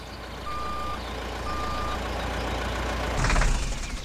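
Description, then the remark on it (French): A truck's engine rumbles steadily as it arrives on a large square set up with tents, in the early afternoon on a cool day as the sun comes out. Two spaced reversing beeps sound, followed by a short burst of hissing, like air brakes, as it settles to idle. “Un camion arrive sur la place.”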